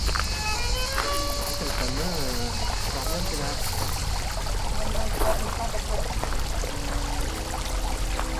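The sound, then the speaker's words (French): Water trickles and splashes steadily down a rock-work fountain wall cascade with aquatic plants, in the aquatic garden level of a museum, a continuous wash of falling water with faint tonal sounds drifting in the background. “On a une espèce de mur fontaine, de cascade en rocaille, avec des plantes aquatiques.”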